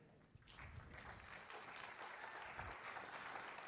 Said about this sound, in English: What we, and by the way, the claps are not for us, they're for Jesus, amen?